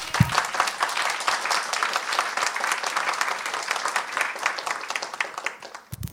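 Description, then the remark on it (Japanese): An audience applauds steadily for about six seconds in thanks for a special hymn of praise and a testimony, a dense wash of many hands clapping at an even, moderate loudness before it tapers off at the end. “導いてくださった神様に感謝して、もう一度拍手で感謝しましょう。”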